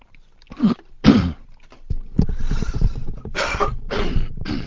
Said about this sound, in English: Just have a little sip of water here for the throat.